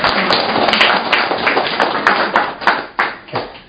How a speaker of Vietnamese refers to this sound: Xin cảm ơn anh rất nhiều. Một tràng pháo tay để cảm ơn người anh em mình.